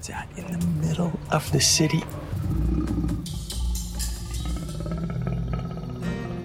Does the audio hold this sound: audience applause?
no